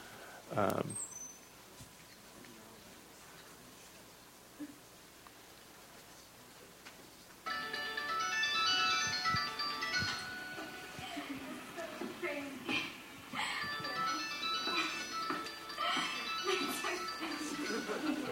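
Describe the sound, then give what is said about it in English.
A phone ringtone starts partway through and keeps going, a bright, busy electronic melody playing steadily over faint background noise, for an incoming call from the speaker's son. “Wait, hold on, my son is ringing.”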